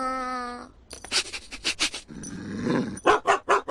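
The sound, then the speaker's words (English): A dog barks loudly in quick, repeated bursts, breaking into a rough growling stretch before a final series of sharp barks. A brief tonal whine comes first. “What kind of animal lets a loud bark?”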